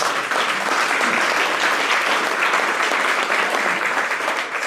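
audience applause

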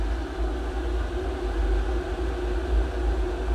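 water boiling

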